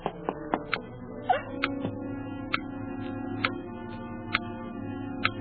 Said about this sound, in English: The clock's ticking again.